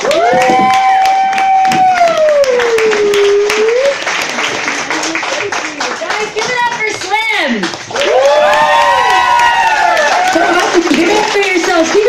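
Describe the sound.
A crowd bursts into loud, sustained applause for a comedian being introduced, dense clapping filling the whole stretch while whoops and cheering voices rise and fall over it, energetic throughout.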